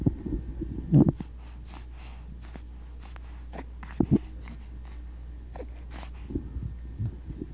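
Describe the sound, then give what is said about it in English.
Wet mouth noises made with the tongue: clicks, smacks and gurgly sounds from the back of the throat, mixed with breathy exhales, with two sharper bursts near the start and middle, no speech. “There's a lot of tongue work going on.”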